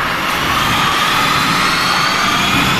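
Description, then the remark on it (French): A Formula 1 race car roars past in a loud, continuous rush of engine noise with a steady high whine riding over it, filling the whole clip without any voices. “Ah, ça, c'est la FE, la Formule 1? La course de Formule 1.”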